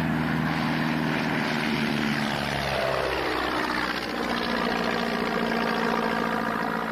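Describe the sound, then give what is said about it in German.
A propeller airplane engine roars loudly and steadily, its droning pitch rising as the plane speeds up and lifts off, with no voices present. “Das Flugzeug rollte schneller und schneller und hob ab.”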